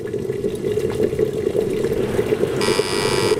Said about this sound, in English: Is it a kettle? It is a kettle.